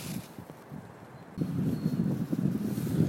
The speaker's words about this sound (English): So it's a bit of a windy day today. It's a gorgeous morning, really bright, clear skies, hardly a cloud in it. And it's one of those crisp winter days, which is always really nice to go for a stroll in.